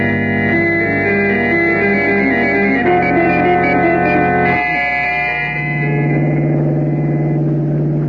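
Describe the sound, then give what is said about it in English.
A hired car drives along a rough, barely made road through desolate country in Montana, its loud, buzzing engine drone holding steady and dropping in pitch twice as it goes, continuous with no voices. “We fly to Helena, Montana, hire a car there, and drive the rest of the way.”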